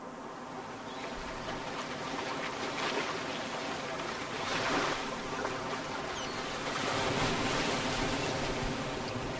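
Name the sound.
sea waves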